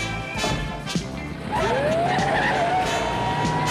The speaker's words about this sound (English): A cop in the middle of writing a ticket sees Sam speed by and runs for his car. He grabs for his radio, then gets in and starts up his squad car.